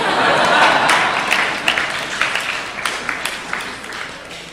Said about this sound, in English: Clap, very nice.